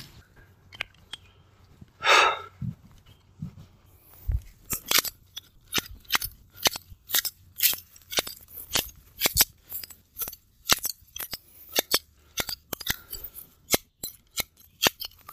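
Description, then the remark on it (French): Crisp cutting of wood, a rapid run of sharp snips and cracks repeating roughly twice a second after a brief rustle, with no talking. “Je préfère un ASMR avec ça, hein, ça serait hot. Coupe de bois en 3D.”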